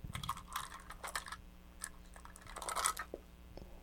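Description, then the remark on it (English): A bunch of keys jingles and clinks in irregular clattering bursts, with brief metallic rings standing out among the rattles. No one speaks. “Now you have keys.”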